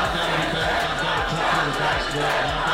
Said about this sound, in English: Inside of Antetokounmpo, puts up the one-hander, shot is good! This crowd has erupted. Giannis Antetokounmpo with one of the most iconic performances in the storied history of the NBA Finals.